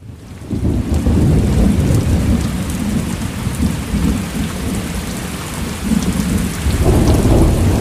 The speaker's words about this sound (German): Tosende Gewitter, Hitze und Regenfall. Sind das alles Auswirkungen von der Klimaerwärmung?